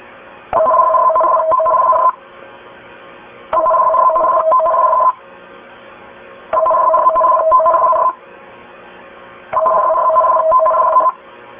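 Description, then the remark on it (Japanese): Four loud bursts of an emergency warning broadcast test signal broadcast by NHK Osaka, each about a second and a half of warbling two-tone beeping, separated by short silences. No voices are heard. “今から緊急警報放送の試験信号を NHK 大阪から放送します。”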